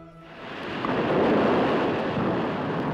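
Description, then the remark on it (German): Heavy rain pours down in the mountains in a dense, steady roar that swells slightly in the first moments and then holds loud throughout, with a deep rumbling undertone and no voices. “In den Bergen regnet es heftig.”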